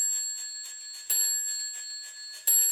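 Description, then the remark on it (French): A clock strikes the hours at night, twice, each chime ringing out with a lingering metallic tone, while a quick, steady ticking continues underneath. No voices. “Dans un demi-sommeil, elle entend l'horloge sonner les heures.”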